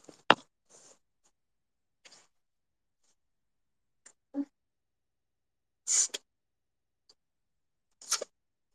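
Someone blows their nose in a few short, rough, hissing bursts separated by quiet pauses, with faint clicks and breathing between them. No talking.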